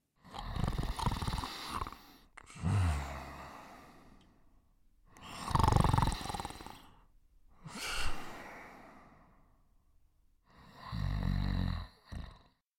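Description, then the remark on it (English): Loud, rasping snores repeat in a slow breathing rhythm, about five of them across the stretch, with no talking, each drawn-out rumble followed by a quieter gap. “Snoring can be 70 decibels on the noisometer.”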